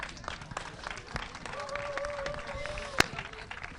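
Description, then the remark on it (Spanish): An audience applauds a person called up from the audience, with dense, steady clapping throughout. Partway through, a sustained high, whistle-like tone rises above the clapping, and a sharp crack stands out near the end. “Un aplauso.”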